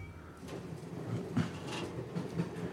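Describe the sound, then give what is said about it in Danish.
A commuter S-train rolls along the rails, a steady low rumble with soft rattles and a few clunks, heard from inside the carriage at moderate volume with no one talking. “Så man sidder i S-toget.”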